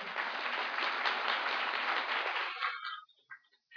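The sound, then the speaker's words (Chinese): A church audience applauds the brothers and sisters who were at the church in 1990 as they stand up, a dense wash of many hands clapping for about two and a half seconds, then it thins out into a few scattered claps and fades away. “好不好，我们给他们一个鼓掌。”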